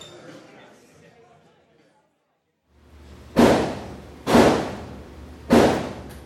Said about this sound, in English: On a small side street in North Philadelphia, you can hear muffled gunshots. This is the gun range, the city's oldest operating shooting range and teaching facility.